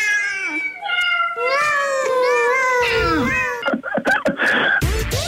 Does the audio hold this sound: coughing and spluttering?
no